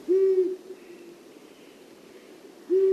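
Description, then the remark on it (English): An owl gives two loud, steady hoots, one at the start and one at the end, separated by a quiet pause of about two seconds, with no voices present. “Wildlife advocates suggest helping the owls by preserving open, fallow fields and by avoiding pesticides that find their way into the owl's prey.”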